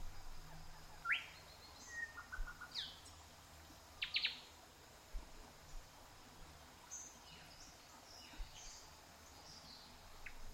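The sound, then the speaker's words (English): Scattered chirps and short calls of native birds ring out in a rainforest over a soft, steady outdoor ambience of leaves rustling overhead, coming every second or two, with no voices present. “As you walk, listen to the gentle rustling of leaves overhead and the melody of native birds.”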